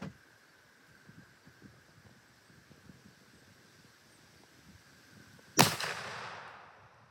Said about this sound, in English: It's good. Shooting about an inch high, but that's nothing too horrible. An inch is not going to make that much of a difference.